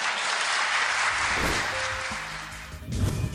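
An audience applauds steadily, a dense wash of many hands clapping that holds at a fairly even loudness throughout, with a faint voice-like tone surfacing briefly near the end.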